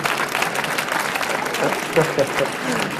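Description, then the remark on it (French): An audience claps steadily, a dense crackle of many hands filling three seconds at an even level, with a few faint voices mixed into the applause. The audience is the public in Geneva. “On va les entendre parce que j'aime bien, moi, entendre le public de Genève.”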